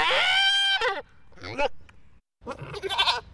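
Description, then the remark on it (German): A goat bleats loudly three times: a long, quavering, high-pitched cry first, then two shorter, rougher bleats after brief pauses, sounding frantic and somewhat hysterical. “Etwas hysterisch, aber das ist das, was unser Hörfunkarchiv heute ausgespuckt hat bei der Suche nach einer meckernden Ziege.”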